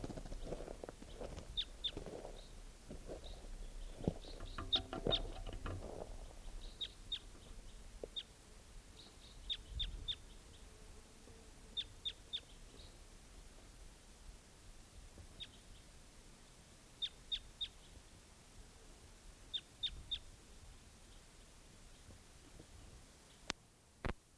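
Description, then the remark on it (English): A bird chirps in quick, high-pitched bursts of two or three notes, repeating at irregular intervals, with soft low thumps and clip-clop-like knocks early on. “Where's that same bird?”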